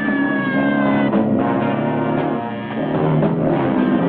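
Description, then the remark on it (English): A police car siren wails steadily through a dense, loud wash of engine and traffic noise, its tone gliding at the start, as the police car, slow to get going, finally moves off chasing a man riding away on a bike. No talking. “The police car has trouble getting going again, so Evil has time to get back up and ride away with the car finally moving after him.”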